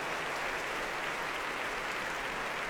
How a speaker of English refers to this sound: Applause now here in the Royal Albert Hall for the leader of the BBC Symphony Orchestra tonight, Andrew Haverin.